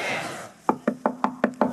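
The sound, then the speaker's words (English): Six sharp, evenly spaced knocks rap out in a steady rhythm, fairly loud, after a brief stretch of soft hiss with no voices. “Who at the door? That's God at the door.”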